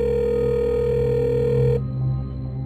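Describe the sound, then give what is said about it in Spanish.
A missing young woman's cell phone rings out unanswered in Medellín, April 2016: one steady electronic ring tone, heard down the line, holds for under two seconds and then cuts off, leaving a low background hum. “El celular de ella timbraba, pero no contestaba a nadie.”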